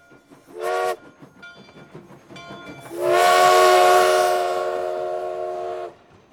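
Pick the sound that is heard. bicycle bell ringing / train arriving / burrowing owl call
train arriving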